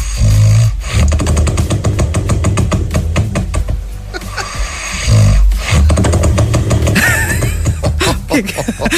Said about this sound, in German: Wir haben Sie gebeten, uns Ihre Schnarchgeräusche zu schicken